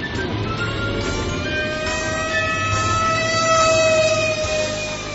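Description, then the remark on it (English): Fire truck sirens wail steadily, their high tones gliding slowly and overlapping above a dense rumble of engine and traffic noise, growing slightly louder toward the end as the trucks come to a burning apartment. “Look, here come the fire trucks.”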